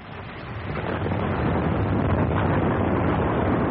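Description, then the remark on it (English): A large ship runs aground on a reef: a deep, broad grinding roar swells within the first second and continues loud and steady, with no voices. “She struck the reef, sir. She's gone aground.”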